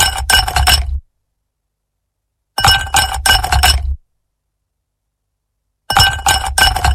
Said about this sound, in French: C'est après les chopes de bière, je pense que c'est des glaçons. Ça fait glaçons, on dirait des glaçons dans.